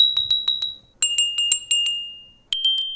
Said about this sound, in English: And so this first experiment that they did, the moon basically rang like a bell for 55 minutes. Thus, her 55 bells and their meteorite ringers. What do they sound like? Like this.